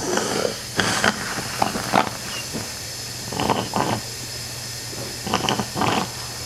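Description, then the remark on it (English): A small suction machine hums steadily while short, wet, hissing slurps come in irregular bursts, several in quick pairs, as a small vacuum draws mucus from a man's chest through a narrow plastic tube inserted into the hole in his throat. “suctions the mucus from his chest with a small vacuum.”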